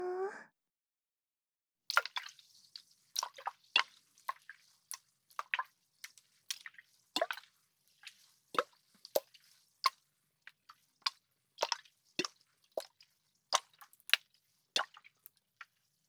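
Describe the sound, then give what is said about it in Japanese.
Wet water sounds: a steady series of small drips and soft sloshing splashes, irregularly spaced and fairly crisp, with no voices. “こういう水の音、癒されるよね。”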